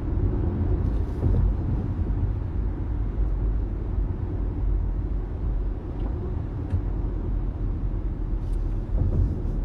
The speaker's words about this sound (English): This tunnel, totally fine. Lights on. Full of cars.